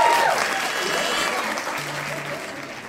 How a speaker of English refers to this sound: So thank you all. Give everyone a round of applause that spoke tonight.